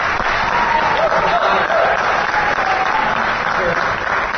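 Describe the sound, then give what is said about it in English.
An audience applauds steadily, a dense, even wash of many hands clapping at once that holds at full strength for several seconds, loud. “Round of applause for Joel Fogle.”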